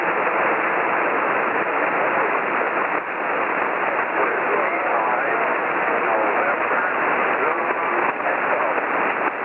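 About seven ham radio stations transmit at once, their voices piling into a steady, garbled wash of narrow-band static that stays loud and unbroken throughout, with no single voice standing out.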